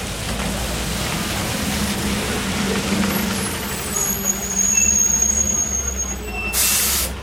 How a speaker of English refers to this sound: This is Dudley Square, an historic inner-city neighborhood in Boston. A large outdoor bus depot here is operated by the Massachusetts Bay Transportation Authority, known to everyone as the T.